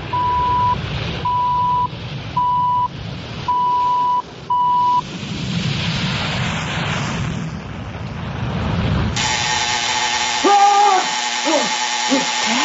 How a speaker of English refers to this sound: And now for the CBC official time signal. At the beginning of the long dash, following 10 seconds of silence, it will be 1 o'clock Eastern Standard Time.